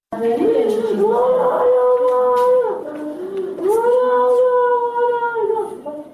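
A woman cries out loudly in pain, two long, drawn-out wailing sobs with a wavering, strained pitch, continuous and without words.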